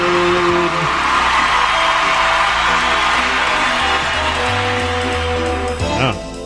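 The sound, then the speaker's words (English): An enthusiastic crowd cheers and whoops loudly and continuously over a steady musical backing, the roar holding for several seconds before a brief rising swell near the end, playing as the intro to the game Know Your Onion. “Always have a very enthusiastic crowd for Know Your Onion.”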